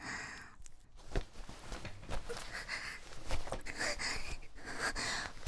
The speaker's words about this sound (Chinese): 哼，瞧瞧你这双目赤红、喘气如牛的样子，你求我，求我我就给你。